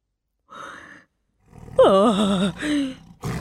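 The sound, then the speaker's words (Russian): A big cat roars: a soft breathy huff, then a loud rumbling roar that wavers and falls in pitch, followed by a shorter growl and a brief rough burst at the end. “Хороший кот.”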